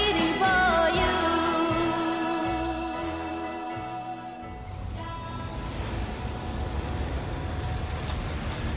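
A musical passage fades out and gives way to the steady roar of dense city traffic at a large intersection at Platz der Luftbrücke in Berlin, cars, buses and trucks rumbling past in a continuous wash of engine and road noise.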